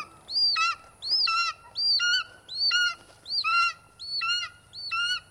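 An eagle calling: seven shrill, descending cries, each stepping down in pitch, repeated at a steady rhythm roughly once a second with brief gaps between, fairly loud over a quiet background, no voices.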